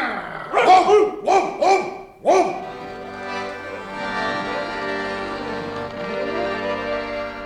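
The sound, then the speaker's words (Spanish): A dog barks four times in quick succession, loud, then breaks into a continuous, rumbling growl that carries on steadily to the end. “¡El perro! ¡A correr!”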